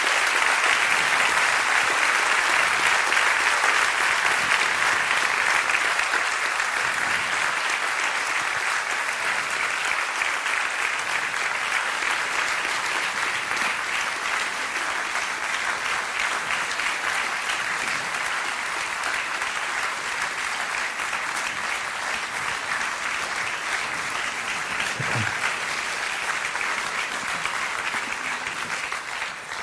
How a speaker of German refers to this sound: Und ganz besonders nach der langen Vorrede begrüße ich natürlich Pater Anselm Grün, unseren Referenten, und ich bitte Sie und euch, ihn mit einem warmen Niederhöchstädter Applaus zu begrüßen.